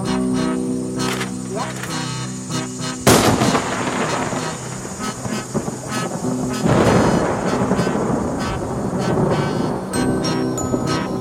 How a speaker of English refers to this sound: I love a lightning storm.